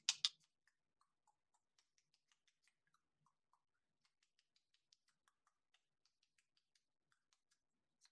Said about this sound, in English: That's the mantis. Just, they do clicking and sounds. So just feel that.